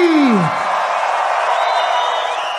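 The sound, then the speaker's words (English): A large concert crowd in Chile cheers in a loud, steady roar throughout, opening with a falling whoop and later carrying high, shrill whistles over the din. “This has to be one of the goddamn craziest crowds I have ever fucking seen.”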